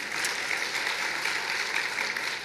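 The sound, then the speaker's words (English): An audience applauds, a dense, steady wash of many hands clapping that holds at an even level for the full couple of seconds, with no voices over it. “Yes, go ahead and applaud.”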